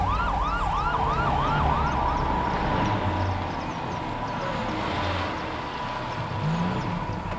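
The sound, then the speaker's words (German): An approaching ambulance siren wails in quick rising-and-falling sweeps, then settles into a steadier tone over a rumble of traffic. The siren is loud throughout, with no voices. “Der Krankenwagen kommt.”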